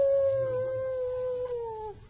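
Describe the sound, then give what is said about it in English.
A person imitates a wolf howl with a single long, steady wail that slowly slides downward in pitch for about two seconds, then cuts off. It sounds fairly loud. “And way off in the distance, they hear the wolf hollering, oh!”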